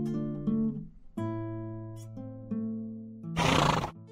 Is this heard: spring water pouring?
no